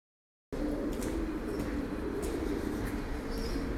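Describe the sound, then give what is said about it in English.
Many pigeons in London coo softly in a low, steady murmur, layered over constant outdoor background noise with a few faint higher chirps. No one speaks. “So many pigeons.”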